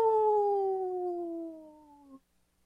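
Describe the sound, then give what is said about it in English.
A single long wolf howl, loud, a clear tone that slowly slides downward for about two seconds before cutting off abruptly, followed by near silence. “This portion of the show is supported by Howling for Wolves, protecting wolves for future generations. Howl!”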